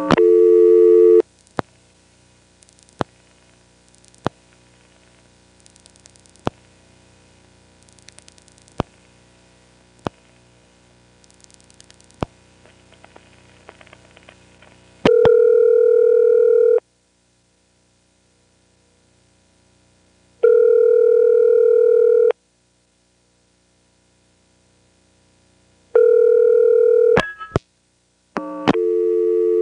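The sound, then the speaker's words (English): Sharp, irregular clicks from an NX1E telephone exchange pulsing as it sets up the route for an intra-office call to a Vanceboro number, ticking over a low steady hum for about fifteen seconds, then giving way to loud on-off bursts of a buzzy telephone tone with silent gaps. “And by the way, what follows is probably the world's only recording of an actual intra-office call being dialed in an NX1E.”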